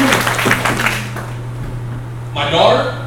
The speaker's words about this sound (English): Yeah, you need to give God a little hand clap. Woo!